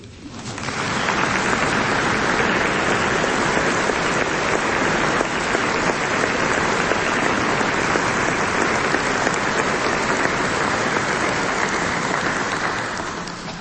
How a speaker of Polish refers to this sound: Tutaj ktoś mi napisał, że małe oklaski się należą.